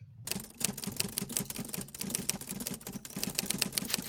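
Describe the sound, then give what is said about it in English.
Rapid mechanical clacking of an old Underwood manual typewriter typing a brief, keys striking in quick irregular bursts with a steady low hum beneath, fairly loud, no voices. “I think that's a brief being typewritten by an old Underwood typewriter.”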